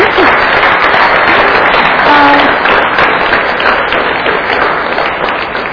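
A crowd applauds loudly and steadily for several seconds, a dense wash of many hands clapping at once with no break, a brief voice faintly showing through midway. The applause is for the person behind the scenes of the Three Jewels community.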